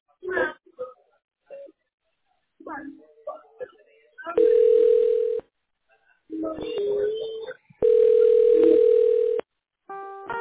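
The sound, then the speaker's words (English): A steady, buzzy telephone line tone sounds in two long bursts of a second or more, with bits of speech between them and a short, higher beeping tone at the end. “Okay. I'm on the phone.”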